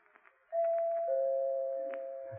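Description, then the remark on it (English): A doorbell rings a loud two-tone chime, a higher note followed by a lower one that rings on and slowly fades. A few faint clicks come just before it. “I know who it is because she rings the doorbell instead of knocking.”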